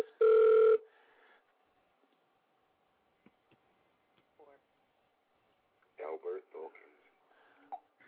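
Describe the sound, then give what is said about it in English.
A phone rings once with a loud, steady electronic tone that cuts off after under a second, as a caller tries to reach someone on the phone line who is not answering. Faint ticks follow in near silence, then a voice speaks briefly near the end. “I'm trying to get somebody on the phone line, but they're not answering their phone.”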